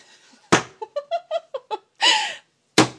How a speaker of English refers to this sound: well, it's picking the bread up underneath, scooping it, and kind of slapping it down on the surface.